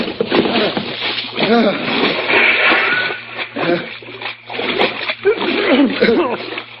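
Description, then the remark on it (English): Loud splashing as people jump over the side of a boat into cold water, followed by churning and sloshing that continues throughout, with indistinct voices calling out over the commotion. “water's awful darn cold for my Saturday night tub.”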